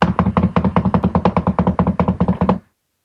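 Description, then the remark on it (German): Rapid, insistent knocking on a locked door that makes the door vibrate: around eighteen loud, heavy thuds in a fast, steady rhythm, about seven per second, with no voices, ending abruptly after two and a half seconds. “Es klopft weiter, so dass die Tür förmlich vibriert.”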